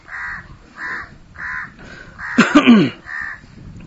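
A crow caws over and over in a steady rhythm, about six harsh calls, with one louder, more raucous squawk near the middle; no one is talking.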